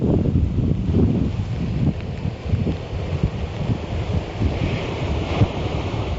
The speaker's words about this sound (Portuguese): na Mariña de Lugo volven a estar hoxe en situación de alerta laranxa por fortes refachos de vento que poden superar os 100 km por hora. Así, soprava o vento a primeira hora da mañá na Mariña, en Barreiros.